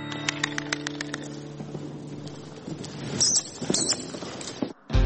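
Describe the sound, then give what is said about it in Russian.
A horse's hooves clip-clop in a quick, steady rhythm during training at a stud farm, then fade into softer scuffs and shuffling noises with no voices. “Без руху не виховаєш доброго коня.”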